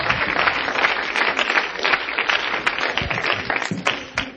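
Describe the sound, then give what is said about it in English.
A crowd claps hands to the Lord in a dense, continuous burst of applause, steady and fairly loud for several seconds with no voices standing out. “Let's clap my hands to the Lord tonight.”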